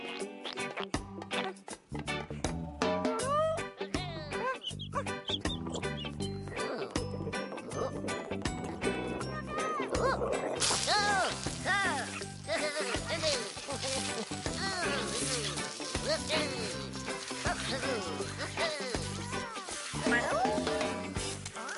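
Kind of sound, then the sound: animal, cat meowing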